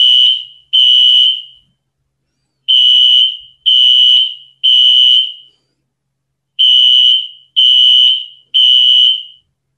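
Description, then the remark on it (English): A loud fire alarm sounds in a repeating pattern of three piercing, high-pitched beeps followed by a pause, heard alone with no voices. “Yes, there is a fire alarm where I am.”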